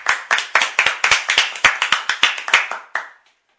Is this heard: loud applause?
yes